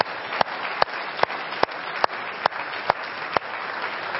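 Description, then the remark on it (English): A church audience applauds a couple about to reach 70 years of marriage, in a steady, dense wash of clapping, with one sharper clap standing out roughly every half second in an even rhythm. No one speaks. “Now that you can clap for.”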